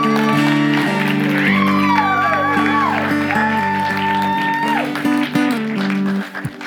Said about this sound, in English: Would you do for me a favor and in the loudest way possible, cheer for these people who led you in worship today. Thank you.